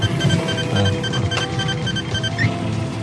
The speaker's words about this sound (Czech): Zvoní vám mobil. Proč to nevezmete? Já přece nemám mobil.